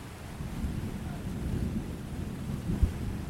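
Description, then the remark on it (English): A deep, continuous rumble of rolling thunder with a stormy hiss over it, steady throughout and swelling briefly into a sharper low crack near the end. “We're going to head into that storm if we don't think of something fast.”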